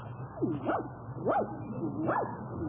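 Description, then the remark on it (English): A small dog gives three high, whiny yips spaced about half a second apart, each pitch rising then dropping, over a low steady hum. “look at that cute little dog.”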